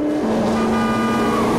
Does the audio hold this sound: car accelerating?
yes